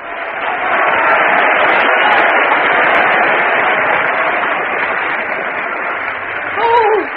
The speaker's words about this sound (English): Now if they'd only applaud like that all the time. Oh, they take a lot of warming up in Brotherston.